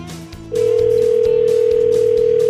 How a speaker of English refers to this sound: So we're going to make a phone call and try to capture the excitement